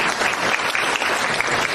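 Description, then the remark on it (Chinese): An audience claps steadily, a dense wash of many hands at a fairly loud, even level with no voices or pauses throughout the short burst. “有的，鼓掌啊！”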